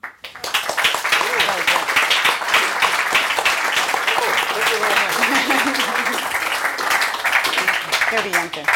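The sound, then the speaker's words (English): An audience at a London Review Bookshop event applauds steadily for about nine seconds at the end of a reading, a dense, loud wash of many hands clapping at once, with some voices mixed in beneath the noise. “another round of applause for being here”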